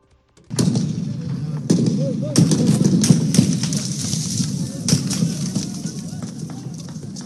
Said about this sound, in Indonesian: Suara tembakan terdengar di luar markas besar militer Sudan di ibu kota Khartoum Selasa, sementara demonstrasi untuk menggulingkan Presiden Omar al-Bashir memasuki hari ketiga berturut-turut.